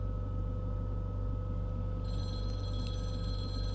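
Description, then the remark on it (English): A telephone starts ringing about halfway through, a high, trilling ring sounding over a steady low electrical hum, with no one speaking. “Uh-oh, phone's ringing.”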